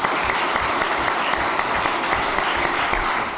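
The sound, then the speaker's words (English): An audience gives a steady round of applause to thank the speakers at the close of a session: dense overlapping claps forming a continuous, even wash of sound that stays loud throughout without voices. “If you'll join me in giving them a round of applause.”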